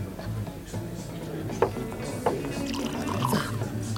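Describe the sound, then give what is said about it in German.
Schnaps is poured into a glass for a toast, a soft trickling splash with a couple of brief clinks, set against a low, steady hum of background noise. “Oh, spielt seine Scheißmusik und sogar sein beschissenes Libo schenkst du aus.”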